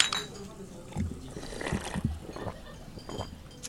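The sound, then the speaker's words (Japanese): Glasses of highball made with Maker's Mark bourbon whiskey and orange peel clink together in a toast, a bright ringing tap near the start followed by a few softer knocks, with low voices and table clatter in the background. “いつもの乾杯ときますか、はいはい、それでは、 はい、乾杯。”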